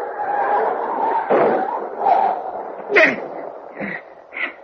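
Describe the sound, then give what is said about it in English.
A dog yelps in pain after being hit by a car on a road in the rain, giving a string of five or so short, high cries spaced about a second apart over a low, muffled background rumble. “The dog. He's back there on the road.”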